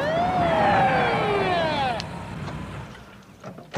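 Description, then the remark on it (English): A police cruiser's siren wails loudly as the cruiser rolls up, its pitch sliding downward before cutting off after about two seconds, leaving a low engine rumble and faint background noise. “Sam checks his watch as a police cruiser rolls up”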